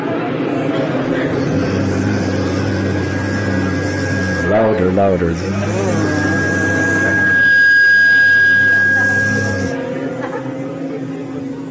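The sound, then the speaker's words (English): A group of voices holds a steady, low buzzing drone in imitation of bees. It breaks briefly when someone speaks, then resumes and swells louder before fading near the end. “First, they would hear the buzzing of the bees, and the boys would imitate the buzzing of the bees.”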